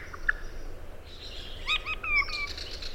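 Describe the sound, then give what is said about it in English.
A regent honeyeater sings a short, simple phrase of a few chirpy, whistled notes, clear, over a steady background hiss with no voices. “And this is a problem that's common to all of the regent honeyeaters that are left?”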